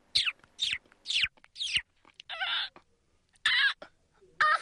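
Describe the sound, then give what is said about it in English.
A human voice mimics bird calls as part of a music performance made with the body: four quick descending chirps in a row, then buzzy trilling bursts separated by short pauses, fairly loud, with no words spoken. “So that was the birds.”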